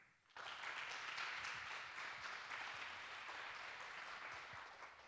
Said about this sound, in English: Please give a big applause for him.